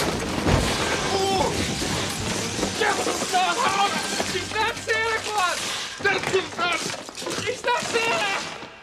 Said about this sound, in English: The floor manager arrives and gawks. He charges the Santa, and they both crash through the tables holding the models.